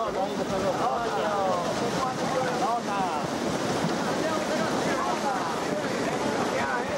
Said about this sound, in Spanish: Una vez apresados, se realiza la levantá, el izado de las redes del copo, con lo que los atunes quedan en la superficie aleteando intensamente y convirtiendo las aguas en espuma entre un intenso chapoteo.